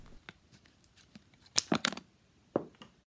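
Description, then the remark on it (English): Scissors snipping through a stiff plastic Westpac credit card in a Market Forces video: soft clicks and handling at first, then three loud crisp cuts in quick succession and one final sharp snip. “The sound of a credit card being cut up by scissors.”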